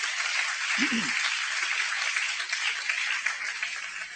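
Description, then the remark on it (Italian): A church audience applauds to welcome a visiting audience and its pastor, a dense, steady wash of many hands clapping that holds at an even level for several seconds, with a brief low vocal sound early on. “Facciamo un applauso.”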